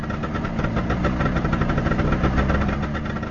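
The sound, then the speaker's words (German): The engine of a dark blue Trabant car, as used by telegram deliverers in Czechoslovakia, runs steadily at idle, its rapid, rattly two-stroke putter continuous throughout, with no voices. “Von frühmorgens bis um 23 Uhr waren sie im ganzen Land unterwegs, 7 Tage in der Woche, zu Fuß oder im dunkelblauen Trabant.”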